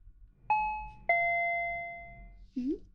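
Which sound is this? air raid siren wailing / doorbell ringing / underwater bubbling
doorbell ringing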